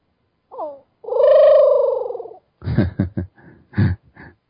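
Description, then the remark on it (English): A kingbird's screech played back slowed down, becoming a low, drawn-out buzzy wail with a rough, wavering texture, preceded by a short chirp and followed by several choppy, stuttering bursts. “Now listen to it in slow motion.”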